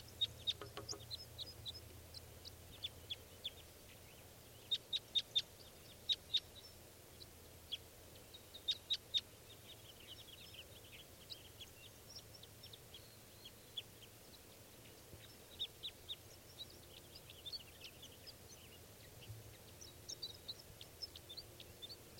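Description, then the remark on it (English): A female wild bird sings in quick, high-pitched chirps and short trills, repeating irregularly throughout. The calls are fairly faint over a low, steady background rumble, with no voices. “There's still about three birds around. Step. Recording. This is a female.”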